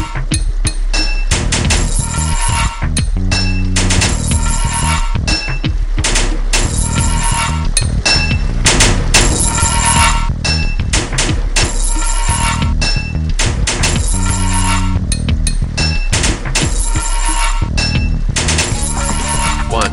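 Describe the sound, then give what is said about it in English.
Loud, rapid hammer blows ring out against metal pipes as pipes are fitted, a dense run of clanging, metallic strikes with bright ringing overtones that continues steadily throughout, with no talking. “3 hits of your hammer to fit a pipe.”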